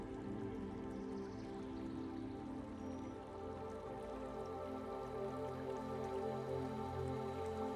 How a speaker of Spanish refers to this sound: En poco tiempo, el camino llega hasta un bonito puente de piedra muy antiguo, cubierto con algunas enredaderas y que cruza un riachuelo de agua dulce y cristalina que fluye suavemente.